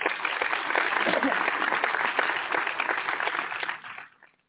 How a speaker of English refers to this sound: And hold up, let's applaud Nicole real quick.